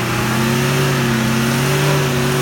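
A heavy 3.5-tonne van's engine revs hard and steadily as the stuck vehicle is being freed, its strained drone slowly rising in pitch as it fails to move. No one speaks.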